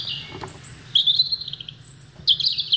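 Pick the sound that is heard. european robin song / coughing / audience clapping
european robin song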